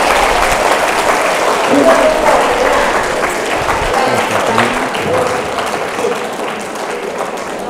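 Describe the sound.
Sustained audience applause, a dense wash of many hands clapping at a steady loud level, with a few faint voices calling out underneath.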